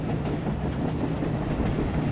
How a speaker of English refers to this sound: The train is moving fast and blowing crossing signals for all these little roads that are going down to miners' houses and houses along the river or up in the hillside above the tracks. It sounds like you're making excellent time here, too.